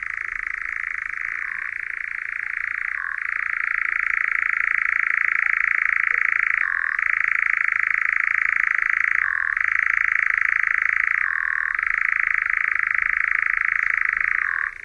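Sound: european nightjar churring call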